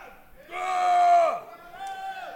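Audience members at a comedy show in Seattle shout out for their favorite guests as they are welcomed, one long, loud, drawn-out yell swelling in the middle and then falling away, followed by a softer second shout.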